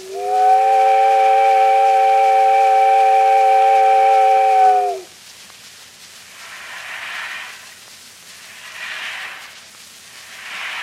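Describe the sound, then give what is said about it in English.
A loud, steady steamboat whistle blows one long chord-like blast for about five seconds as the boat departs, then cuts off, leaving rhythmic puffs of hissing steam chuffing at a regular pace. “There goes the boat.”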